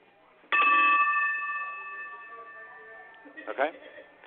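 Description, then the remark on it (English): A bell rung once, with a phone held close to it to get a frequency reading: a sharp strike followed by bright, clear overlapping tones that hang and slowly fade over about three seconds, then a short burst of muffled noise at the end. “So let's try just one ring, but put the phone closer to it so I can see if I can get a reading from that.”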